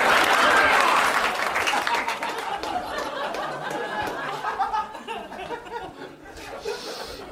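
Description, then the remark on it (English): An audience breaks into loud, sustained applause, with scattered chuckles and laughter mixed in. The clapping starts strongest and stays steady for several seconds, easing a little toward the end. “Oh, now you're clapping, assholes?”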